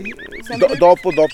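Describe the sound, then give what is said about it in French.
A common blackbird's morning call, a quick run of sharp, high, repeated notes, three or four clipped chirps, then a human voice takes over with several loud, drawn-out syllables. “Donc là c'est le tin tin tin du merle.”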